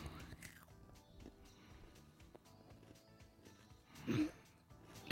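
Crunching as someone bites into a Crunch Bar chocolate bar and chews, with irregular crisp cracks and a louder crunch near the end, no talking.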